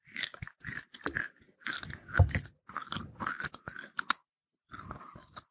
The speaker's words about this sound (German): Während der Aufnahme schmatzen. Moment mal. So. Vielleicht hört sich das ja auch cool an.